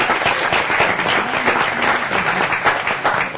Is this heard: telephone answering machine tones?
no